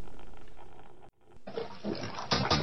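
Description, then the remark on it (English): Water splashes and sloshes noisily in a bathtub as someone takes a bath, after a brief moment of quiet, with irregular bursts of churning liquid that grow louder toward the end. “This splash, I was taking a bath.”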